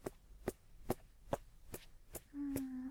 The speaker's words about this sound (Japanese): では起き上がっていただいて、今度はお肩をトントンしますね。トントントントン。